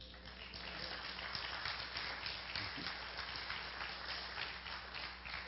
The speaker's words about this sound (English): I appreciate you applauding.